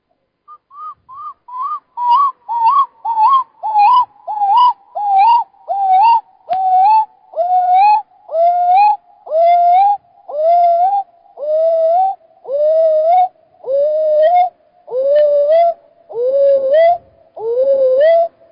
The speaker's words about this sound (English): Screech owl. Screech owls are into binaural beats. This one is doing alpha, creating alpha by doing their screech.